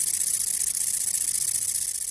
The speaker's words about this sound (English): The short-winged conehead has a very soft song indeed, and it almost sounds exactly like the wind blowing through the reeds.